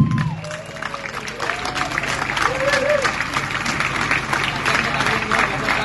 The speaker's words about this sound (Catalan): Però sobretot vull donar les gràcies a aquesta comissió que fa possible aquestes festes. Un fort aplaudiment.